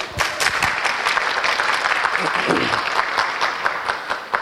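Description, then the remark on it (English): A steady burst of audience applause welcoming an artist who curated an exhibition, many hands clapping in a dense, continuous patter that holds at a fairly loud level for several seconds without pause. “I think that was the first time I have been applauded as an art world figure, which sounds like something much greater than I think I actually am.”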